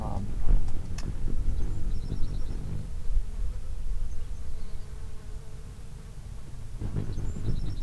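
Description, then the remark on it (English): A hummingbird's dive display, the second batch of dives by a bird of unknown identity: a steady, insect-like buzzing hum runs throughout, broken by a few faint, rapid high-pitched chirping trills near the start and again toward the end, with no voices. “So unfortunately, I don't know the identity of the bird that was doing the second batch of dives.”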